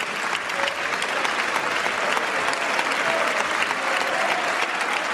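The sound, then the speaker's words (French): Sustained, dense standing ovation from the majority of deputies in a French parliamentary chamber as the speaker praises the work of the police, steady and loud throughout, with a faint murmur of voices and boos from part of the chamber mixed into the clapping. “Et même lorsqu'il salue le travail des forces de l'ordre, malgré l'ovation debout de la majorité, on entend les huées d'une partie de l'hémicycle.”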